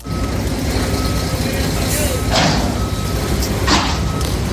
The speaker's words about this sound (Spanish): A esta hora ya hay muchos vecinos de la zona de Batán, de Campamento, de la Casa de Campo, que no necesitan despertador. Con el ruido que les llega de las obras del soterramiento de la A5, se despiertan incluso antes de tiempo.